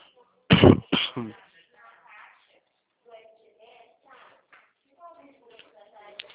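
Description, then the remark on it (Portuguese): Three quick, harsh coughs from a person with a slight cough burst out into the mic, like a rough throat clearing, followed by a quieter stretch of someone speaking softly. “Desculpa, viu? Tô com um pouco de tosse.”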